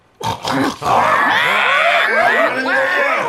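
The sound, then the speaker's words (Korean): Loud angry shouting from pigs and humans quarrelling together in the main building's meeting room: several voices at once, overlapping, strained cries mixed with rough grunting, sustained for about three seconds after a couple of sharp opening bursts. “그때 갑자기 돼지들과 인간들이 함께 있던 본체 회의실에서 요란한 고함 소리가 들렸다.”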